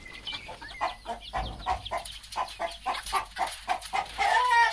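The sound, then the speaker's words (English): Many chickens cluck in a steady, overlapping chatter at a poultry farm by a river, with short repeated calls rising and falling throughout, ending in a louder, busier burst of squawking. “By the river is a poultry farm where birds are kept to feed another protected species, the African rock python.”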